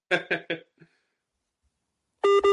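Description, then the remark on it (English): A few short clipped sounds, then silence, then two loud, steady electronic beeps in quick succession as a phone call with boxer Roy Jones disconnects. “And now his phone's just disconnected, but you just had Roy Jones there.”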